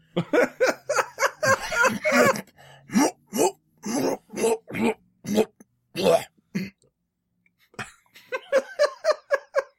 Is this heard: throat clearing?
yes